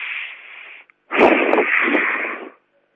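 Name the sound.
slow deep breathing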